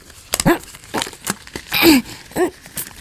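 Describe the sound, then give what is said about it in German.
Tight gloves being pulled on: a series of crinkly, rubbery stretching and rustling bursts, with a few short vocal effort noises mixed in. “Die Handschuhdinger sind eng.”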